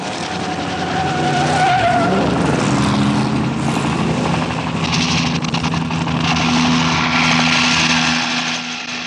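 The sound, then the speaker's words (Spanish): A helicopter's engine and rotor roar loudly in a steady, droning wash with a high whine early on as it comes down toward the listeners, filling the whole stretch without any voices. “¡Se dirige hacia nosotros! ¡Calimán! ¡Calimán! ¡Es un helicóptero!”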